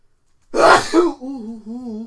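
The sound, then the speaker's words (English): A single loud sneeze bursts out with a sharp breathy blast, then trails off into a short wavering vocal groan. “Bless you, bless your family, bless everything about you.”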